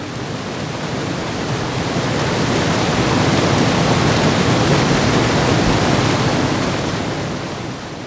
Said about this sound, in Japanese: 見よ、前方の川を。昨日の豪雨で山の水源地は氾濫し、濁流とうとうと下流に集まり、猛声一挙に橋を破壊し、堂々と響きを上げる激流が木っ端みじんに橋桁を跳ね飛ばしていた。